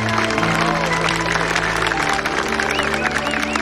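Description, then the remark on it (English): Guests applaud steadily, the clapping dense and sustained throughout, with some crowd murmur and a faint musical tone underneath. “The guests applaud.”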